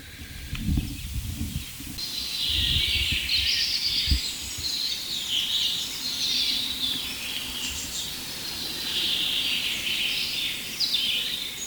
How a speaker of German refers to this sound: Und nähern uns mal dem ersten Buchfink. Und wir werden uns mal von Fink zu Fink hangeln und gucken, was wir aus diesem Richtmikrofon rausholen können, technisch.